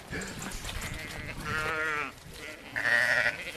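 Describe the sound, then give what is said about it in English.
Dairy sheep of the Friesland and Lacan breeds bleat in a few wavering calls, one low and quavering, then a higher, brighter bleat near the end, over a soft background murmur. “Like, they have much more milk than is ever required by the lambs they produce.”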